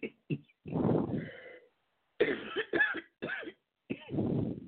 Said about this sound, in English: I haven't coughed in a while, but I do have this cough every now and then.